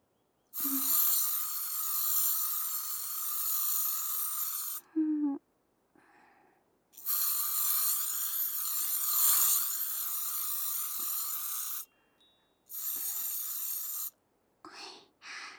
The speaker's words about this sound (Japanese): あとでケープをお掃除しやすくしたいから静電気防止スプレー吹いちゃいますね。一応目とお口閉じててください。